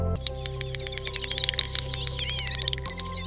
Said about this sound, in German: Hier ist ein Gimpel, ein seltener Vogel in Litauen, auf überschwemmten Wiesen und in Flusstälern zu finden.